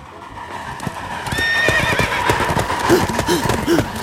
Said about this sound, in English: The horse sees the train. The horse runs with the train.